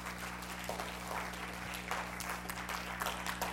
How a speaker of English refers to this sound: So I'm just going to take a little time out and just say thank you for that. Yeah, you can clap. I don't know who did, but you can clap.